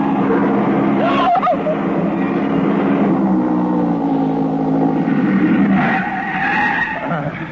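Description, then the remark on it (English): A fast Porsche roars along a road on its last kilometer, its engine loud and steady for several seconds, with a sharp squeal of skidding tires near the start and again toward the end. “The Porsche ahead. He sees my lights. No, mon pauvre. No, not so fast.”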